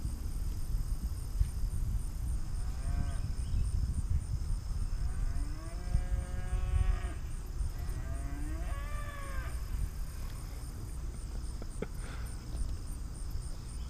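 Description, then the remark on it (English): Several cattle moo in drawn-out, overlapping calls as bulls and bull calves follow a cow in heat, layered over a steady high chirring of crickets and low outdoor rumble. No one speaks. “There's a cow in heat.”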